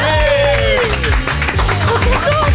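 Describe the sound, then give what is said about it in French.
An audience claps steadily in a dense, continuous wash of applause, with cheering voices and excited calls rising over it throughout. “Oui, j'aimerais qu'on l'applaudisse.”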